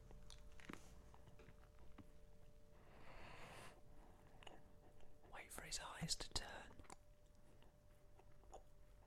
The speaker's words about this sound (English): Chewed for a long time.